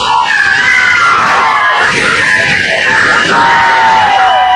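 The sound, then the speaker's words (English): A loud, dense chorus of overlapping screeches and hisses from several animals at once, continuous and harsh across the whole stretch, with no talking. “Now everyone's hissing and screeching at her. They're having a screech off.”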